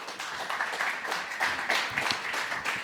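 An audience at the Gaming Days event in Düsseldorf applauds a guest, a co-founder of the event, coming onto the stage; many hands clap in a dense, crackling wash that stays fairly even in loudness throughout, with no voices standing out.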